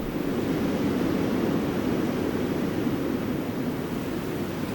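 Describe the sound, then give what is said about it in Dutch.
Steady brown noise plays on its own, a deep, even rumbling hiss with most of its weight in the low end, like the deep tone of a storm, holding at a constant level throughout. “Dan is de bruine ruis vooral de diepe toon van die storm.”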